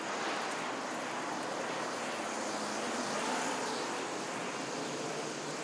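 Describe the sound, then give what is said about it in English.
A bus rumbles past, a loud, steady engine and road roar that fills the whole stretch without fading much, with no voices over it. “And a bus going past, I think.”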